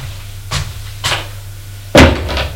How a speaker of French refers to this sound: Elle ferme la porte.